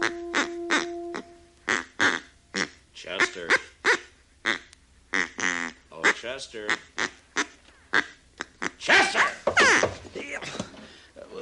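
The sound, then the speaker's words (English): A duck call, ordered by mail from St. Louis, blown over and over in a Gunsmoke radio drama scene, sounding a long run of loud, nasal quacks, some short and choppy, others drawn out and wavering, in an irregular rhythm. “Oh, this is a duck call.”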